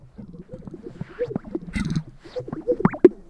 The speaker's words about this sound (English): Again, it's hard to believe that that is a bird. Yeah, it's a crazy sound,